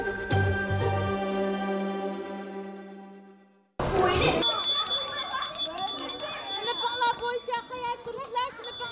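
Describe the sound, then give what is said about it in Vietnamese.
After a ringing tone fades out, a lively crowd of Uyghur children at a weekend Uyghur language school in Adelaide, Australia, erupts in busy chatter and shouts at the recess bell, many young voices overlapping continuously. “Trẻ em thuộc cộng đồng người Duy Ngô Nhĩ tại Adelaide ngóng chờ chuông ra chơi giữa giờ học.”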